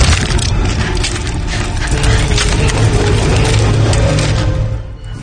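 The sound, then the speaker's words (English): Thin sheets of muscovite rock crack and shatter in a loud, dense stream of crunching and splintering for about five seconds, with no voices, then trail off abruptly at the end. “Well, so thin that the slightest change of weight and pressure can cause it to shatter.”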